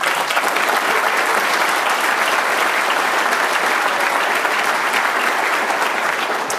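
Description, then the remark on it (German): An audience applauds a speaker about to talk on INDECT, video surveillance and behavior recognition, a dense, even wash of many hands sustained at a consistent loud level for several seconds with no voices standing out. “Deswegen bitte Runde Applaus für Ben und dann geht's los.”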